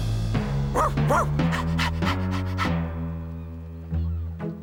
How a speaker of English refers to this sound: And this is Clifford, my big red dog.